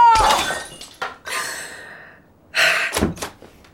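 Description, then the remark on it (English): A ceramic vase bought in Honduras shatters with a loud crash, followed by scattered clinks and a second burst of breaking pieces, then a few sharp impacts as fragments settle. “That ugly vase you bought me in Honduras, it broke.”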